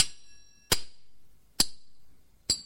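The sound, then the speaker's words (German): A gong and a kettledrum are struck: three loud metallic clangs about a second apart, each with a sharp attack and a bright ringing tail that fades quickly. “bin ich nichts weiter als ein dröhnender Gong und eine lärmende Pauke.”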